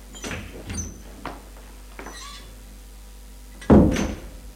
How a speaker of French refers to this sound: Qu'elle ait fermé la porte du salon